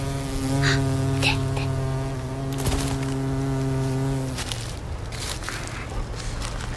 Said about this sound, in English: we've got to stay super, super quiet so we can hear them buzz. See how the pollen gets stuck on their legs